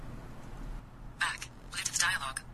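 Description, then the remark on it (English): A synthetic text-to-speech voice from the Mobile Speak 4 phone screen reader, using the newest Acapella voice, speaks two short bursts, thin and tinny, after a moment of quiet background hiss. “Let's take a listen to Mobile Speak running the newest iteration of Acapella with Mobile Speak 4.”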